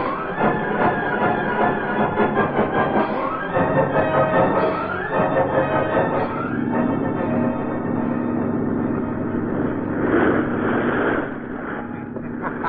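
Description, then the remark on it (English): A boat motor runs with a steady, rumbling drone that holds at an even pitch, mixed at first with ringing, clanging tones and a broad wash of noise. “Start the motor on that boat!”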